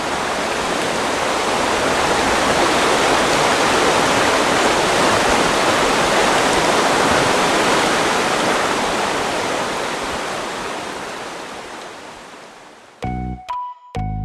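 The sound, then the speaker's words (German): A powerful, steady roar of water rushing from the Brobergen drainage pumping station, which pumps about 700 litres per second into the Oste river, loud, holding for about thirteen seconds and easing slightly before a few brief musical tones cut in. “In dieser Zeit hat das Schöpfwerk so viel Wasser in die Oste gepumpt, wie in 5 Badewannen passt.”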